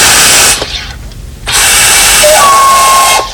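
Two loud bursts of pressurized gas from a home soda maker's gas cartridge hissing into water to carbonate it, separated by a brief pause, the second burst carrying a thin high whistle-like tone before cutting off. No voices.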